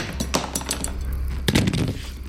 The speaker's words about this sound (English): Roz heard the clatter of his fallen weapons.